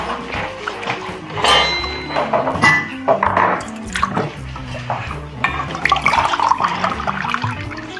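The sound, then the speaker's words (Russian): A glass of water is poured for use in a blender, a steady, splashing trickle, moderately loud, with a few clinks and light drips, while a faint low background hum continues throughout. “Соответственно, мне нужна вода. Дайте мне воды. Буквально стакан.”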